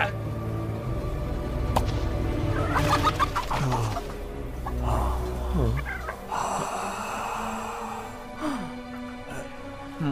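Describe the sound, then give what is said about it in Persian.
Chickens cluck and squawk in busy, overlapping bursts over about ten seconds, fairly loud, with a steady low rumble underneath and no one speaking. “پرنده رو اشتباه گرفتی.”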